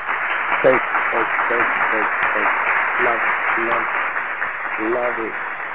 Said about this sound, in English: I'm loving it. I'm loving it. Round of applause to that.